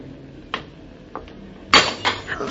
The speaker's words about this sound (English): I'll pick up the broken glass and the milk bottle and wrap it in paper so nobody else gets hurt. Guess I was carrying too much.